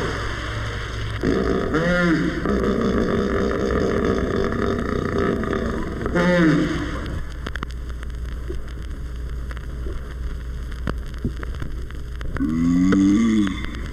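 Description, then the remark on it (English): A 4,000-pound hippopotamus surfaces in its pool amid splashing, rushing water, then gives three deep, harmonic honking calls, two close together early on and a louder, wheezing one near the end. “Listen as 4,000 pounds of hippopotamus surfaces in its pool and issues its call.”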